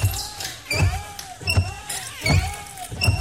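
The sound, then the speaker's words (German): Worn car windshield wipers squeak back and forth in a steady rhythm, each pass a loud rubbery squeal ending in a dull thump, repeating about four times with no one talking. “So klingt es, wenn Ihr Auto nach neuen Scheibenwischern fleht.”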